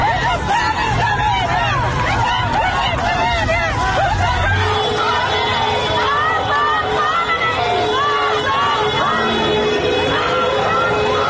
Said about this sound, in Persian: در پی فراخوانی که در روزهای قبل منتشر شده بود. معترضان در بوکان علیه رهبر جمهوری اسلامی و عوامل سرکوب شعار دادند.